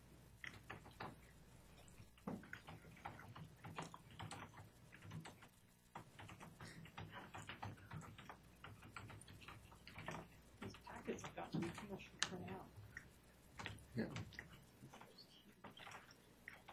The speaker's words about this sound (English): Don't mind my typing.